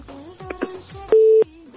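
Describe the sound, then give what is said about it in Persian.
A single loud, steady telephone busy-signal beep after a call is hung up, about a third of a second long, following some faint crackly line noise and clicks. “خب تماسونو قطع میکنیم به خاطر از اینکه باید مراعات کنن اینکه وقتی تماس میگیرن متوجه باشن.”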